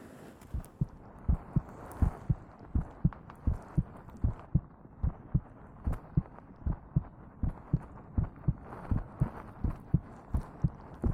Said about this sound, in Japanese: 私の心臓の音、トクトクって聞こえてるでしょ。赤ちゃんはママの心臓の音聞くとすっごく安心するんだって。